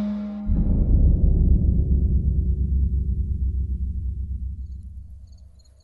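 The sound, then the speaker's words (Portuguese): A loud, low toad croak rattles on in a continuous pulsing trill for several seconds, alone, slowly fading out toward the end, as a toad jumps out of a shoe. “No auge do desespero, o chinelo salta no ar mais uma vez, num curto passo, e de dentro do sapato, pula um sapo, olha aí, e assim termina a nossa história.”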